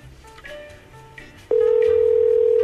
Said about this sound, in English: Well, that's a nice ringtone. It sounds somewhere fancy. You can always tell by the ringtone from different countries. I reckon Sweden.